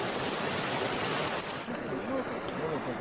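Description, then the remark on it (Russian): Loud, steady roar of rushing floodwater from the overflowing Quenkumayo River in the Cusco region of Peru after torrential rains, a dense continuous churning wash with faint voices barely audible beneath it near the end. “Река Квенкумайо вышла из берегов.”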